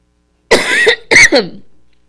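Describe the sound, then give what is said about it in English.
Two harsh human coughs in quick succession, loud and raspy, with a brief gap between them and a trailing wheezy fade afterward. “My cough just got worse.”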